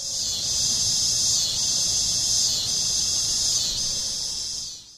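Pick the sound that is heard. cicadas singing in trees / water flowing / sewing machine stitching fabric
cicadas singing in trees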